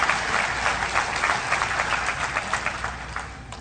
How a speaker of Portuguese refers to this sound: Quando a gente gosta de alguma coisa, é normal você bater palma, meu irmão. Eu não aplaudo nenhum Neymar, não aplaudo nenhum Messi, mas eu tenho vontade de aplaudir o meu Jesus.